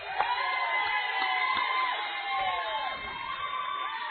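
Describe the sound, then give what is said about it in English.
A crowd cheers and whoops steadily for several seconds, a dense wash of voices with excited shouts rising above it, from a sizable audience welcoming quarterback P.J. Cannon, three-year starter for the Zachary Broncos. “How about a nice round of applause for quarterback P.J. Cannon?”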